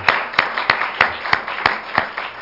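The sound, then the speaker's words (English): A church audience claps hands in praise of the Lord in a steady, even rhythm, about three claps per second, with each crisp clap standing out clearly over a soft background and no talking. “Let's give the Lord another hand clap of praise this morning.”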